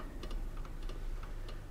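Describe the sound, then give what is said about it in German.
An alarm clock that has been set to a chosen time ticks steadily, its sharp, high clicks falling in quick pairs over a low, constant hum, with no voices present. “Er nimmt das Gift ein, stellt den Wecker auf die Zeit, zu der er das Läuten nicht mehr hören wird, und schaltet das Tonbandgerät ein.”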